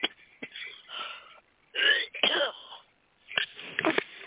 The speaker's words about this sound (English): Having a cough here. It's okay. Okay, let's see if that stopped that.